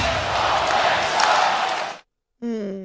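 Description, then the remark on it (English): A loud crowd at a hockey arena chants "Salt Lake sucks" together for about two seconds, a dense wall of voices, then it cuts out and, after a short pause, a man begins speaking. “Salt Lake sucks. Salt Lake sucks. Maybe that's their ode to the new owner who is determined to move them to Salt Lake City along with his other team, the Jazz.”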